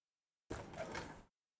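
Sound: door being opened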